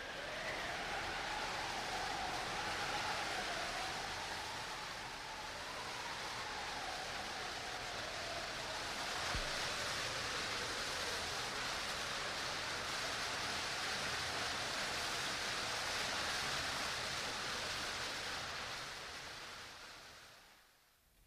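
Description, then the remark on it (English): A raging storm in a radio play, with shrill, whistling wind that rises and falls over a constant thundering roar of a waterfall far below, loud and unbroken for the whole stretch before fading at the very end. “The storm rages more shrilly through space now, and far below is heard the thunder of the waterfall.”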